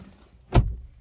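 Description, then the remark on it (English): A single solid car door thunk as a person gets out of a car lands midway through, fairly loud with a deep low thud, surrounded by a quiet rumbling background and no voices. “gets out of the car.”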